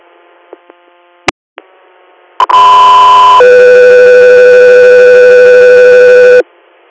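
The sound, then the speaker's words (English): Radio dispatch alert tones: after a few faint clicks and a squelch pop, a loud steady tone sounds for about a second, then drops to a lower tone held for three seconds. No talking. “Cut 3 Air, stand by for tones.”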